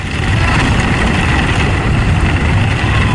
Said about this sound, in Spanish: Esto que estamos escuchando es sonido real de la travesía de ese vídeo. Distinguimos más o menos el ruido de las olas, la mar furiosa.